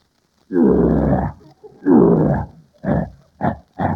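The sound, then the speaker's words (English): A man's voice imitates a lion roaring: two long, loud, throaty roars followed by three short grunting bursts, unaccompanied by talk. “Now get a load of this lion roar.”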